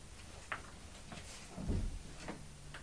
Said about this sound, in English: That's Daddy. No, it's not Daddy. I think it was Linda and Brian next door shutting their door. Don't you?